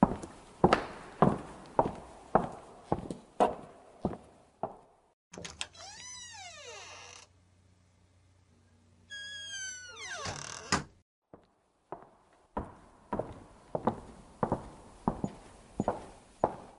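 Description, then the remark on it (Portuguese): Steady footsteps walk along as someone goes to open the door for an arriving visitor, then the door creaks and grinds open with a long squeal and a low hum, closes again, and the regular footsteps resume. “Beleza, eu vou lá abrir a porta então, só um pouquinho.”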